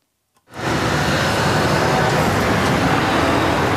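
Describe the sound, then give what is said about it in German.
Steady, loud roar of heavy road traffic that fades in quickly and then holds, a dense rumble of engines and tyres from trucks driving to the sugar factory in Anklam, which about 500 trucks reach each day, with no voices. “Rund 500 Lkw steuern seit September jeden Tag die Zuckerfabrik in Anklam an.”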